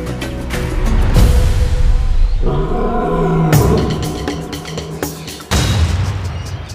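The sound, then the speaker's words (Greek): A lion roars loudly in long, rumbling surges that swell and fade, breaking off briefly near the end before another powerful roar bursts in. No one speaks. “Εγώ είμαι δυνατός, φωνάζει το λιοντάρι.”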